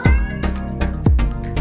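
A cat meows twice, about a second apart, each call dropping in pitch, over a short rhythmic musical backing with steady pulsing beats. No one speaks.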